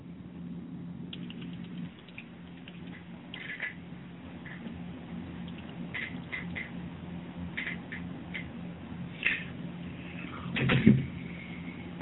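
Quiet, irregular clicking of typing on a keyboard, with bursts of keystrokes over a steady low hum and one louder clack near the end. No one speaks.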